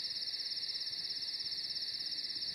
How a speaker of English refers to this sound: There we go. Let's get rid of the crickets.